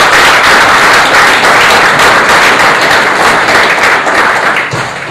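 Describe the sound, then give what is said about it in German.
Loud, sustained applause from a large audience at a film screening, welcoming the young man who translated the film into German: a dense wash of many hands clapping at once that holds steady for several seconds before easing slightly at the end. “Ich möchte dazu sagen, dass der Film auf Deutsch übersetzt wurde von einem jungen Mann aus Dresden, der heute Abend auch da ist, bitte in großer Beifall. Applaus.”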